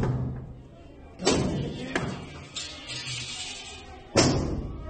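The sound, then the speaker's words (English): Rioters in Alice Springs slam and smash a door with heavy blows: three loud, booming impacts at irregular intervals, plus a lighter knock, over a steady murmur of background noise and voices. “They've smashed one door around.”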